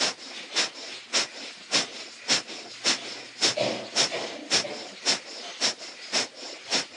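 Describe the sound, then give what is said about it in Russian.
Forceful breathy exhalations of kapalabhati yogic breathing, pushed through the throat rather than the nose, repeat in a steady, quick rhythm, about a dozen sharp hissing bursts, each clipped short, with quieter airy breathing between them and no talking. “Выдох больше проходит именно в области гортани, не за счет носа.”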